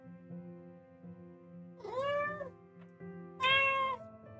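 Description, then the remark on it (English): A forest cat meows twice, about a second and a half apart, each call rising then falling. The meows are clear over a low, steady background hum, and nobody speaks. “It's the forest cat.”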